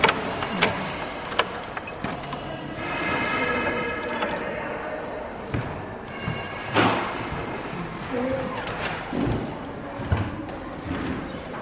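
A bunch of keys jangles and clinks in bright, irregular metallic bursts, set against a low background rumble with a few thuds that could be a door.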